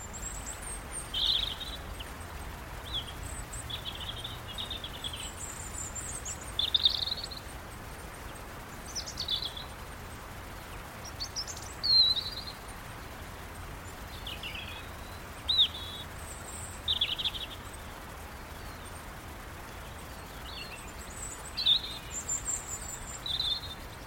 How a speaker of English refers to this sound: including birds chattering and captures some of their wing movements as well